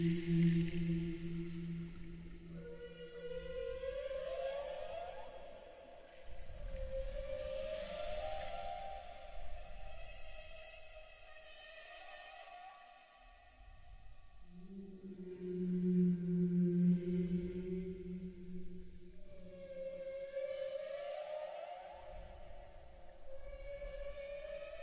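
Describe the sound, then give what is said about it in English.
Humpback whale song: long, eerie moans and rising, wailing tones with bright overtones, sweeping up and down in repeating phrases, heard clearly on their own with no talking. “With that, we'll sit for a minute and just really take in what we're hearing and listen to some complex whale song and appreciate it.”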